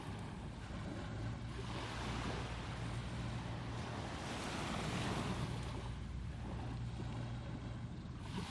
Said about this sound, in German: Genieß mit mir diese kleine Auszeit am Strand. In der Ferne fährt ein Motorboot vorbei.